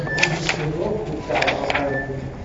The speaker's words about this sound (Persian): این بازم یا حضرت عباس ورق زدن این کار بسیار مشکلیه.